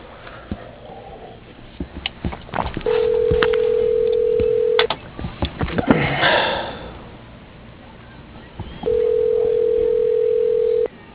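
Telephone keypad dialing tones as an extension is entered on the dial pad of an automated phone menu: two long, steady, mid-pitched electronic tones about two seconds each, separated by scattered clicks and a brief rushing noise, with no one talking.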